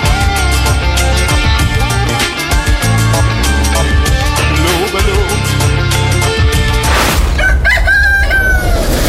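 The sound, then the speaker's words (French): Upbeat, busy music plays for several seconds, then cuts to a single loud rooster crowing, its drawn-out cock-a-doodle-doo ringing out alone at the end. It is the crow LN Radio uses to wake listeners in the morning between 4 and 6 am. “Le matin, entre 4h et 6h, LN Radio vous réveille au chant du coq.”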